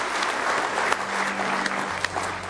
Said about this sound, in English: Oh, go ahead and give the Lord a good hand clap of praise this morning.